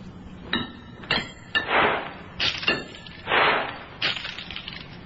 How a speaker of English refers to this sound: Dr. Humer hurled the coins around the chamber floor, the last few far over to the other side.